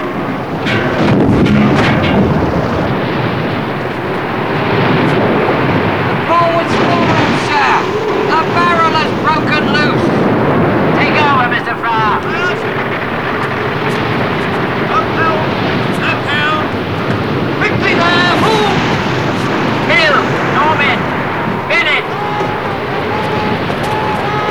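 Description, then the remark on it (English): A ship's bow smashes through huge waves amid a constant loud roar of churning water and wind, with surges of crashing spray and voices calling out beneath the din. “The ship's bow smashes through another huge wave.”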